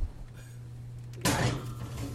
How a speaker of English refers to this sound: So I'm going into the oven now. Will you grab the oven door for me? I will. Okay.